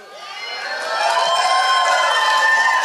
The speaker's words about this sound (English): That was a huge cheer when he yeah, voted out. Yeah, you guys don't like Boston Rob? Yeah. Okay. All right. You have to either cheer or boo.